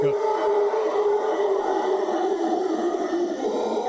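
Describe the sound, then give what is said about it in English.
Howler monkeys roar in a loud, continuous chorus, a deep droning howl with a rough, grinding edge that holds steady for several seconds without a break. No one talks over it. “All right, bring me up so we can hear what a howler monkey sounds like.”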